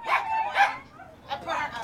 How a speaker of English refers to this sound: Her dogs were getting restless in their cages.